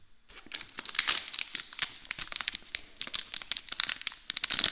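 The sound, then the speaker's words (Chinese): A plastic bag crinkles and rustles for several seconds, a dense, irregular stream of sharp crackles with no voices. “这个塑料袋只要戴在你的头上5分钟，您就会窒息而亡。”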